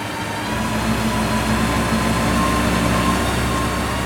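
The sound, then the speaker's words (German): A fire tanker truck's pump, switched on in front of the fire depot, runs loud, a steady, unbroken mechanical drone with a deep engine hum underneath and a broad hiss on top, holding constant throughout. “Und dann haben sie die Pumpe angemacht auf dem Tankwagen.”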